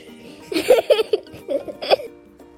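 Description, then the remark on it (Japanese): A baby cries in a few short, choppy bursts, whimpering sobs coming in quick succession over about a second and a half before trailing off. “泣いてます”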